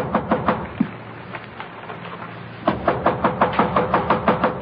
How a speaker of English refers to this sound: A man with a briefcase in his hand has been knocking impatiently at one of the room doors.